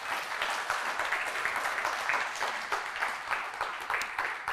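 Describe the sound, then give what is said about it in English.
A church audience applauds its elders steadily, many hands clapping in a dense, even patter that holds at a fairly constant loudness throughout, with no voices rising above it. “Can we give a round of applause for our elders?”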